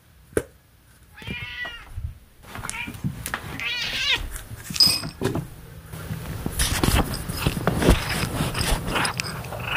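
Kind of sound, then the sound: animal, cat meowing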